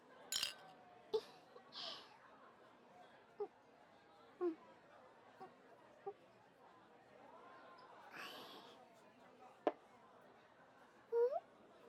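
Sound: glasses clinking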